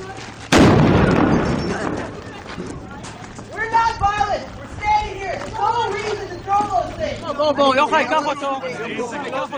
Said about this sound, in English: when Israeli soldiers abruptly fired concussion grenades into the peaceful crowd. They broke the windshield of the professor's car, but he is okay.